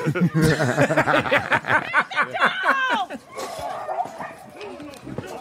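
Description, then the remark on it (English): A pit bull dog in a video barks and yelps in rapid, frantic bursts during the first few seconds while fighting a horse, loud, with people laughing and talking over it before things quiet down. “I'm pretty sure this dog is dying, but, like, he never stops.”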